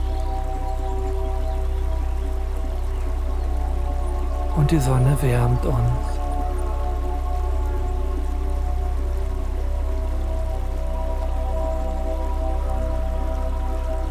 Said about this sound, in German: Das gleichmäßige Plätschern des Flusses beruhigt uns.